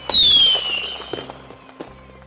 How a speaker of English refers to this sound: who likes the sound of fireworks.